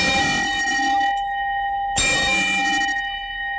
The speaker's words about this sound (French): Alors attention, opération distillation lancée, vous allez l'entendre à coup de cloche